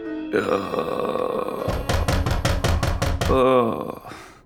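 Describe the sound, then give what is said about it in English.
A rapid series of about eight heavy, evenly spaced knocks pounds loudly on a door, while a man groans and grunts before and throughout the banging. “And now it's pounding so loud it sounds like it's coming from the door.”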